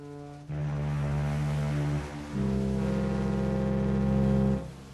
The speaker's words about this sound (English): And I also love how the video reimagines the opening foghorns in this song as the snores of the yaks. Like, it's just so imaginative and delightful to me.